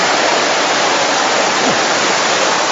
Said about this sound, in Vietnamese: Nó mưa nó hắt, cầm ghế vào.